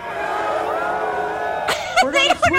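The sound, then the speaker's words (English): A rally crowd murmurs in a scattered, uncertain jumble of voices in response to a chanted question about what they will do tomorrow, with a few louder individual shouts and whoops breaking through near the end instead of a unified reply. “They don't know what they're supposed to yell back.”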